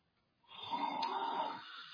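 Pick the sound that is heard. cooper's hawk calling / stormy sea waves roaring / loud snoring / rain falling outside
loud snoring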